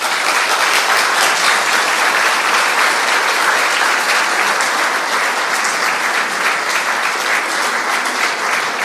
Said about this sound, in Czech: Nyní mi dovolte, abych pozval již na pódium naše milé hosty, které tu máme. Je to flétnový soubor Vivat Flauto a pěvecký sbor Fenix. Přivítejme je prosím potleskem.